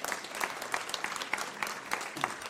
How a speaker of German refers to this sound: Deswegen erstmal Applaus für die Nominierung